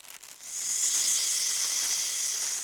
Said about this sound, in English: I think it's a snake. Yes, look. I can see a snake. It's brown.